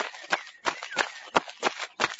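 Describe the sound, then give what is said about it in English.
Quick running footsteps of a boy running to the village, about six evenly spaced thuds in a steady rhythm, moderately loud, with no voices. “One day, he ran to the village.”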